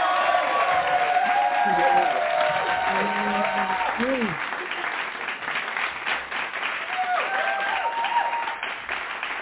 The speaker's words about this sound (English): I think that deserves a hand clap praise. Amen.